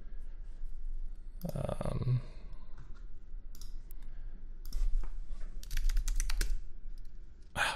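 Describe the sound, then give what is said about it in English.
Irregular bursts of typing on a computer keyboard, fairly clear, with quick clusters of key clicks and short pauses between them over a low background hum; no one speaks. “Classic wrong keyboard.”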